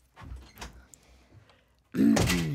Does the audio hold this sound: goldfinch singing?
no